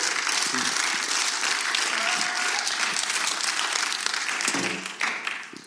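An audience applauds together, a dense, steady wash of many hands clapping that holds for several seconds before tapering off near the end, with faint voices mixed in.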